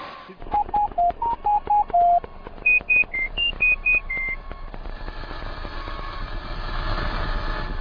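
A phone line connecting to switch over to Asten, with a quick series of short electronic tones, a lower run of beeps then a higher run, giving way to a steady low rumbling hum.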